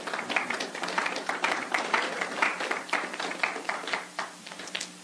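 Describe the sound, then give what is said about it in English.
A crowd gives the Lord a hand clap, applauding steadily for about five seconds, many hands clapping at once in a dense, uneven patter with a low hum underneath and no voices. “Give the Lord a hand clap tonight for that.”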